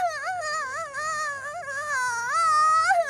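A little girl cries in a high, wavering wail, her sobbing voice rising and falling continuously for a few seconds, fairly loud with no other talk.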